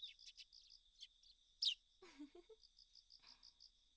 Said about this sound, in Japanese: 鳥たちもあんなに楽しそうに鳴いています。